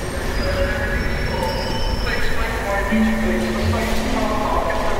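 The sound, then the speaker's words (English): A train full of passengers rolls steadily along the track for two hours without stopping, bound for Clockfield station, with a constant low rumble, thin metallic squeals and whines rising now and then over the noise, and faint indistinct voices in the background. “The train departs and rolls down the track for 2 hours without stopping.”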